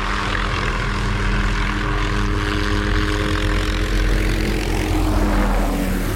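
A helicopter drones overhead, flying over the town prison at Luynes, near Aix-en-Provence, France, on the afternoon of 14 April 2003; its steady rotor thrum is loud and continuous throughout, with a slight shift in pitch toward the end as it passes.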